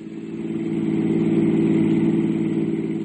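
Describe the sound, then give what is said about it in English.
A car engine hums steadily while driving back to a realty office and on to Barker Street, a low, even drone with a faint rhythmic pulse and a slight swell in loudness, no voices present. “I drove Endicott J. Knapp back to his realty office and went on to Barker Street.”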